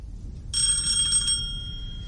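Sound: bell ringing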